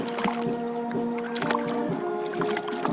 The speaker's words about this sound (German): Genau, da kommt die Renke ins Boot. Na, noch nicht ganz. So, da haben wir die Renke. Ein wunderschönes Tier aus dem Tegernsee.